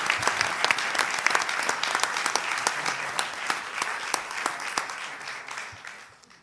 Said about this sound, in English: This is a huge honor for these students. Can we all give a huge round of applause for them, please? Thank you, everybody.